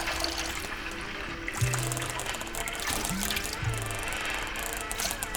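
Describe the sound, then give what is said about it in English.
Wet, squelching footsteps of people walking through soggy, waterlogged mud, a few uneven steps over a constant watery background hiss. “Some people walking on a very humid and full of water soil.”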